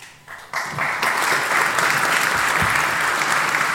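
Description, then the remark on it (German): An audience bursts into applause, the clapping swelling quickly within the first second into a dense, steady roar of many hands that holds loud and even to the end. “Ich danke euch für diese wunderschönen Tage und dass ihr in den Vorträgen gewesen seid und dass ihr die Vortragenden mit eurem Applaus, mit eurer Aufmerksamkeit unterstützt habt.”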